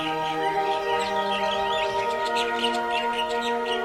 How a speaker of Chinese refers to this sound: 木管乐器奏出欢快的节奏时，您再想象一下，是不是能看见一群可爱的小鸟在嬉戏呢？